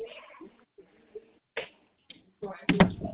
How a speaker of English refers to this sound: All right, shut my door.